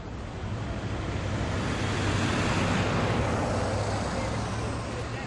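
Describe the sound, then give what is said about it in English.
About 44 school buses, each carrying roughly 45 to 70 students, arrive at 7:10 in a steady wash of deep engine rumble and broad road noise, continuous and fairly loud throughout, with no clear pauses or distinct individual sounds. “Right now we have 44 buses showing up, each with somewhere between roughly 45 to 70 students.”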